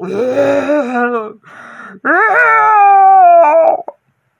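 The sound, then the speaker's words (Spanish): A lion in a forest, caught in a sturdy net, gives two loud, drawn-out roars, each a long tonal bellow with a wavering, howl-like pitch; the first trails off into a rough rumble before the second, longer one rises and fades. “Unos días después, mientras el ratón paseaba por el bosque, oyó unos terribles rugidos.”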